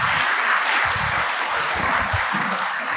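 Steady, sustained applause from a crowd, a dense wash of many hands clapping at an even loudness for the whole stretch, with no voices rising above it.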